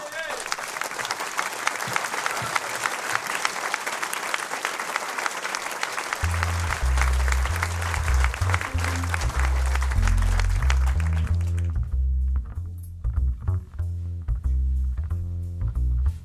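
Loud, dense audience applause welcoming a jazz singer lasts about twelve seconds. Low piano chords enter partway through and carry on alone after the clapping dies away.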